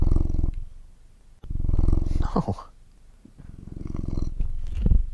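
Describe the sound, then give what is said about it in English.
A person imitates a cat's purr, producing low, throaty rumbling in three close, steady stretches separated by short pauses, with a brief spoken word in the middle. “There it is again. You're purring.”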